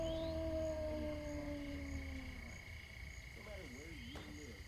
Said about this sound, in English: What the hell was that? It sounded like a wolf.